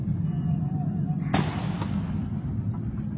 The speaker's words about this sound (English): If he would not have been there, if Congressman Steve Scalise would not have been there, those are the police officers firing back, I believe, at the suspect. And they were able to neutralize him.